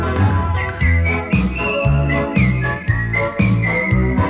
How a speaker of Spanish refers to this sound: Silbar es solo aire, cosquillas al viento. Si sabes silbar, tú silbarás conmigo. Si sabes silbar, ya tienes un amigo.